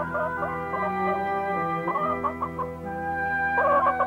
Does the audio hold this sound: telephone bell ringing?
no